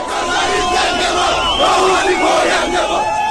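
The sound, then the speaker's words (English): A large crowd at Tehran's International Airport cheers and chants loudly, greeting Iran's foreign minister Javad Zarif on his return from talks in Switzerland: many voices shouting together in a dense, continuous roar with rising and falling surges of excitement. “When Iran's foreign minister Javad Zarif came home back to Tehran after those epic talks in Switzerland, he was greeted at Tehran's International Airport by some cheering crowds here.”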